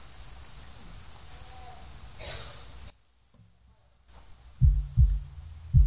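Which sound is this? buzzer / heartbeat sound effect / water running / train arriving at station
heartbeat sound effect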